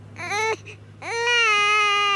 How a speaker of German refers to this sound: Die Kleine weint viel.